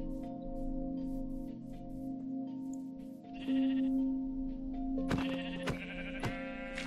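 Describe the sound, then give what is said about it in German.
Sheep in a video game bleat repeatedly and fairly loudly as they are attacked, several wavering, nasal cries overlapping one another, with a few sharp clicks near the end and no talking. “Nieder mit den Schafen.”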